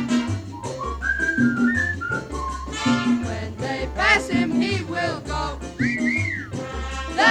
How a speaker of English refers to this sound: So whistle, sweet Jojo. Whistle high and whistle low.